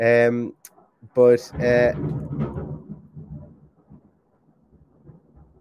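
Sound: loud clap of thunder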